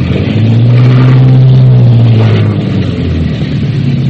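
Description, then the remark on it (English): Heavy boat engines roar, a loud, steady low rumble that surges and strains as they run full astern while the boat comes in to a wharf in the rain, with no voices over them. “Easy, does it? All back full.”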